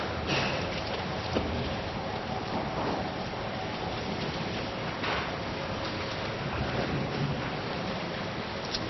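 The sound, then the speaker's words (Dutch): A steady, dense rustle of many Bible pages being turned at once as a church audience looks up a reading from Luke 7, with occasional crisper flicks standing out and no one speaking. “Mooi dat je hier nog het geritsel hoort van de Bijbel.”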